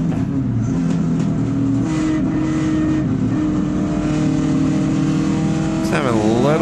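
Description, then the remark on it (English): A BMW 2002 race car's engine drones loudly and steadily on track, its pitch holding and shifting slightly, then a sharp rev sweeps upward near the end as it accelerates hard. “BMW. A little BMW. Looks good. You're lapping that fool.”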